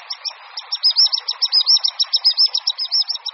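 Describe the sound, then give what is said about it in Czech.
A common sandpiper calls in a rapid, continuous run of high, thin piping notes, each short and slightly rising, repeated steadily throughout with little pause. “S hlasem pisíka se u našich vod můžeme setkat prakticky jenom od poloviny dubna do asi konce září.”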